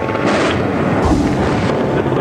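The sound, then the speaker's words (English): Explosions from bombing rumble loudly and continuously, with a couple of heavier blasts standing out over a dense, roaring low-end wash. No one speaks. “I'll let you hear it, Tom. I'll let you, these explosions are continuing.”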